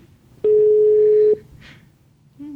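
A phone call to a hotel at 12 o'clock ringing out: a steady electronic ringback tone sounds for about a second, falls silent, then starts again, with no one answering.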